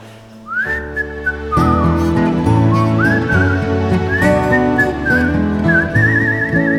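A person whistles a melodic tune with bending, warbling notes over a full instrumental backing of steady chords and bass, the whistle clear and prominent throughout.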